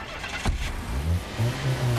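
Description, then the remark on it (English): A car engine starts up with a sharp clunk, then a low motor hum rises and shifts as a woman drives the car away out of a car pound. The engine is moderately loud, and no one speaks. “she manages to knee him in the groin, then escape into her car.”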